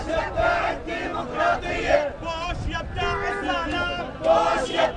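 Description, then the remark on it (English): A large crowd of Palestinian protesters chants loudly in rhythmic unison while marching through gridlocked traffic in Al Manara Square, protesting the occupation, many voices shouting together in repeated phrases with a steady, surging cadence and constant background noise. “30 spent the afternoon marching through the gridlock traffic of Al Manara Square, protesting the occupation.”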